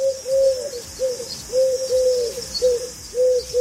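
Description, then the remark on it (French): A pigeon coos in a steady, repeating rhythm of soft, throaty phrases, about four in a row, over a faint constant hiss of outdoor background noise. “Ouais, petit pigeon, quoi. Pigeon de bronze.”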